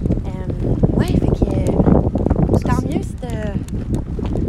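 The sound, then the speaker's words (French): Steady low rumbling buffets of wind hit the microphone outdoors, loud and continuous, while several people talk and exclaim over it. “ça va être venteux. Oh! On va retourner vers les arbres.”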